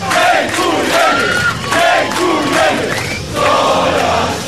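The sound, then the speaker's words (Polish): A big crowd of fans at an airport's Terminal 2 cheers and chants together as the volleyball champions come out carrying their trophy, loud and continuous, with many voices shouting in unison and the noise swelling again toward the end. “Pierwsze, co usłyszeli od kibiców, to...”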